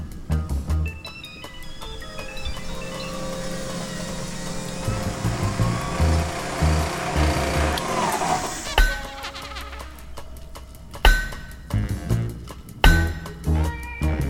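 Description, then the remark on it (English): A whining drill press grinds steadily with a shifting pitch and rising noise, then gives way to a few sharp, loud metallic hammer blows striking a heavy vault door, as a gang tries to crack it open on the second floor of a co-op on a rainy night. “To get the money, first the gang had to get through a vault door on the second floor, using a drill press and hammers to try and crack the door open.”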